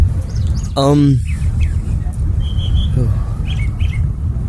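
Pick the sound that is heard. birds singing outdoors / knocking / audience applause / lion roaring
birds singing outdoors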